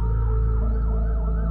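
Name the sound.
ambulance siren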